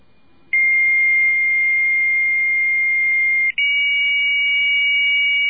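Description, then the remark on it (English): A computer modem's answering tone as a computer answers a phone call: a loud, steady high-pitched whistle that holds for about three seconds, cuts out briefly, then resumes at a slightly higher pitch. No one speaks. “This is what a computer sounds like when it answers.”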